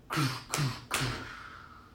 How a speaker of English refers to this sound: And he walked in the gate, and he walked up to the front door of the factory, and he knocked on it.